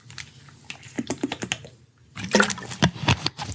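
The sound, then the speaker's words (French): Water is poured into a glass in two bursts, with a brief pause between them, making irregular clinking, glugging splashes that grow busier and louder in the second half. No one speaks. “Je continue avec l'article suivant et je me resserre une petite gorgée d'eau.”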